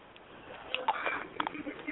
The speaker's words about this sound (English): Because I know y'all hear me crunching.